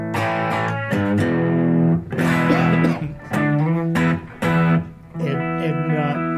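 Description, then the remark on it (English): An electric guitar played through a pedal plays a series of strummed and picked phrases with a gentle overdrive, the tone breaking up slightly on harder attacks while staying mostly clean, fairly loud with brief gaps. “But if you dig in, it'll dirt up a little bit, just enough. Not an overblown sound, but it's subtle, but it's very cool.”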